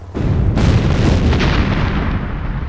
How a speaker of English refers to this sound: They no sooner did when a series of concussive detonations shook the street, but the blasts had been shaped to blow at Salvo's position rather than at the Jedi.